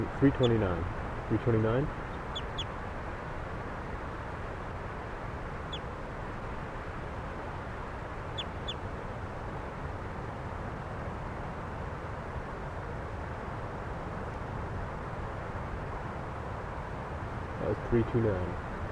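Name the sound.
bird calls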